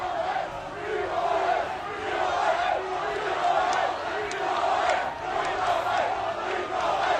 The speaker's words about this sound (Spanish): Gritaban en libertad para Nole Djokovic, de momento está libre